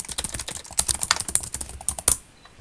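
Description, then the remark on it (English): Rapid, uneven clicking of fingers typing on a computer keyboard, fairly loud, a steady flurry of keystrokes for about two seconds that stops abruptly with one sharper final tap. “Now let's see if yours says I'm typing now.”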